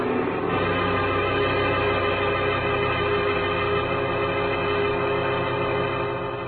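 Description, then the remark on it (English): A powerful car motor, a long black Nash, roars out of Stewart's driveway at a loud, steady level, a deep droning hum with a constant pitch that carries on unbroken for several seconds, with no voices. “Well, 40 minutes later, I was about to call off the cloak and dagger routine when I heard the sound of a powerful motor roaring out of Stewart's driveway.”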